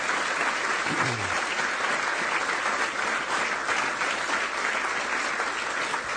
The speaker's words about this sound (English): So if we could give a great round of applause to the Vice President, Karen Pence.